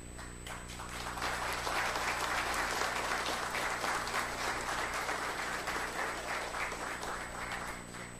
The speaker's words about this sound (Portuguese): Infelizmente, eu vejo que faltou algumas pessoas aqui, mas que mesmo onde eles estão, que receba o nosso aplauso.